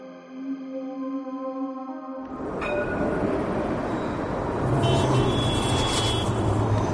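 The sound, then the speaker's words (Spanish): A sustained horn-like tone opens, then dense morning street traffic in New York at 6:30 a.m. rumbles in loud, a continuous wash of engines and road noise that swells further toward the end. “La gente camina con gran rapidez de un lado para otro, el tráfico es bastante denso.”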